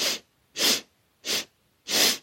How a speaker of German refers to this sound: Kontrollier nochmal deine Haltung und atme hier ganz tief ein und versuch am Ende noch viermal klein Luft zu holen, auch wenn du das Gefühl hast, deine Lungen sind schon komplett voll. Wir atmen ein und vier.